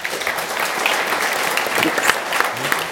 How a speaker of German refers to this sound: Ihr kriegt jetzt einen warmen Applaus.